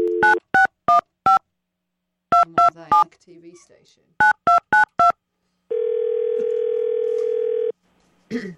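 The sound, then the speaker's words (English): Telephone keypad tones beep in quick clusters as production companies in Nashville, including RFD TV, are called: about ten short dual-tone chirps with a pause and a brief spoken phrase between, followed by a steady two-second dial tone and a voice starting to talk. “Why does nobody answer the fucking phone in Nashville?”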